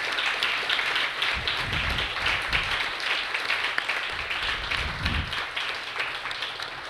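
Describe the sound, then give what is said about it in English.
An audience applauds the introducers and David Kirby, a dense, even wash of many hands clapping that holds at a fairly loud level for several seconds without voices. “And can we get another round of applause for the introducers and for David Kirby for everything that they've done?”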